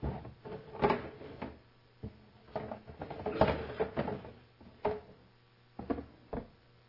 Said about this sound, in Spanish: Primera cosa, vamos a sacar las patas de la mesa. Y vamos a poner las patas abajo.